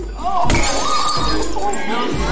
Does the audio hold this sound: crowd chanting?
no